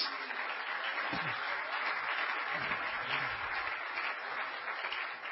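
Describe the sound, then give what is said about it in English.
A crowd claps their hands to the Lord steadily for several seconds, a dense, even wash of many hands with no clear beat, holding at a constant moderate loudness throughout. “You may be seated, clapping your hands to the Lord.”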